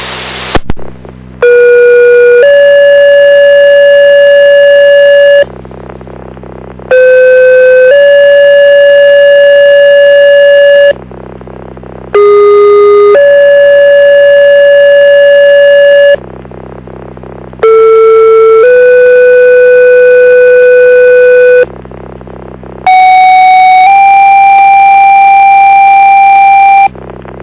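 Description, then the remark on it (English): Loud emergency pager alert tones from a Thursday night pager test in Fayette County: five bursts of about four seconds each, every one stepping from a short pitch to a longer held tone, separated by brief pauses, with no voices. “This is not a medical call. Thursday night pager test.”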